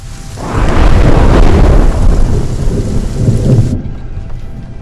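A loud crack of thunder rolls into a sustained rumble over steady heavy rain, then cuts off abruptly, leaving only faint patter.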